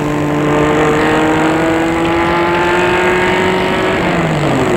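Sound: car driving away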